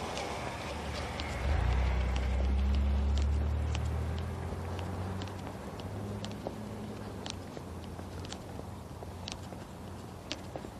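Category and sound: vehicle, car driving by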